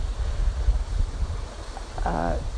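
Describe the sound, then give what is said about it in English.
Water gushes steadily along a small rivulet-like stream on a chilly day, a full rushing noise with a deep rumble throughout; a brief snatch of a voice surfaces near the end. “Today it's chilly, it's very chilly, and I'm enjoying the gushing water in the rivulet.”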